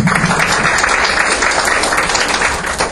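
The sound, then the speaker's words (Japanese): An audience at the JPOKM23 meeting wrap-up applauds steadily to thank the presenters and proposers, dense overlapping claps forming a continuous, fairly loud wash of sound throughout, with no talking over it. “拍手を持って感謝を表したいと思います。”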